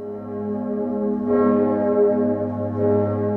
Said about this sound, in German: Kurz nach 12 Uhr mittags läuteten vorerst nur die Glocken.